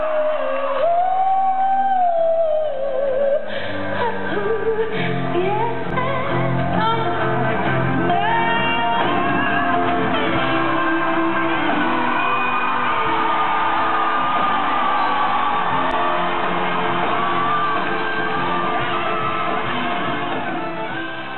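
A concert crowd cheers, whoops and screams loudly and continuously for about twenty seconds for a singer at the end of a song, recorded on someone's phone, a dense roar of many voices with high shouts rising above it and no quiet gaps.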